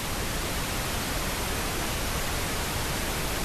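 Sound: pink noise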